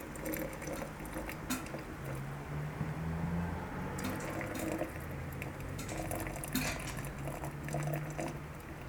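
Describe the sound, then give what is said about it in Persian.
Boiling hot water pours steadily from a tilted kettle into a flask, a continuous stream of splashing and gurgling with a faint hollow filling tone, no voices over it. “بعد تقریبا به کتری زاویه میدیم که بیاد پایین.”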